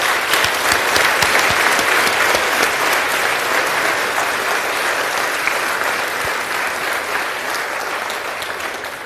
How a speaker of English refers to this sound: Friends, it's good to praise our God with a round of applause at this point.